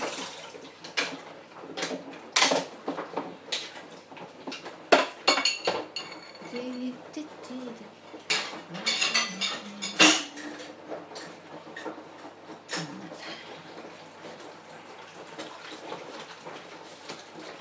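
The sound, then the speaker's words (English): Plates, pans and cutlery clink and clatter in irregular bursts as a dishwasher is loaded, with sharp metallic knocks scattered over a soft running-water hiss and no talking. “Not to put saucepans in the dishwasher because they just take up too much room, so anything like that, like roasting tins and stuff, I wash by hand, which is what I'm doing now.”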